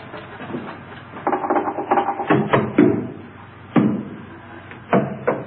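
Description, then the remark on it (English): Knocking on a wall, heard as a quick cluster of dull, muffled raps, then a lone knock and a final pair, over a low steady background hum. “Now, I'm going to knock on the other wall.”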